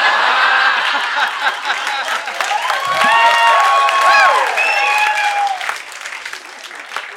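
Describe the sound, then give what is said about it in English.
A crowd breaks into loud, steady applause with scattered whoops and high whistles mixed in, holding strong for several seconds before thinning out toward the end. “I actually did write applause here, but you do not have to.”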